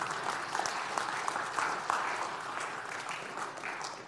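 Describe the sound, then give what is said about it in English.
A steady wash of audience applause, many hands clapping in a dense, continuous patter at a fairly even level for several seconds, with no voices heard over it. “You can clap.”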